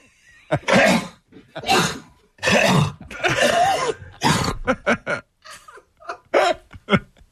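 A man coughs over and over, a string of about ten harsh, loud bursts close to the listener, coming in uneven clusters with brief gaps and no talking.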